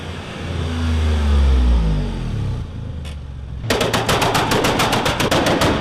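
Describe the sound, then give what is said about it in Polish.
A car engine revs up loudly and winds back down, followed by a fast, steady string of sharp popping cracks like rapid-fire bangs. “Na dźwięk silnika czy na wnętrze?”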